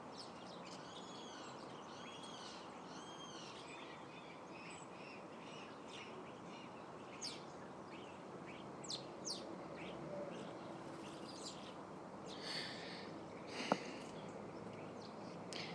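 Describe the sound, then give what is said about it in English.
Many birds chirp and call outdoors in the morning, a steady chorus of overlapping high tweets and trills over a soft ambient hiss, with no one talking. “So many birds in the air this morning.”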